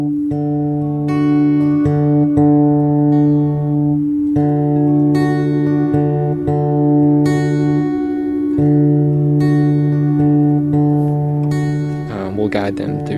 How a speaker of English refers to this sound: And she had just purchased the singing bowls, which you play, each bowl has a different key to it. And so what I do is I'll match the key of my guitar to whichever bowl she's playing.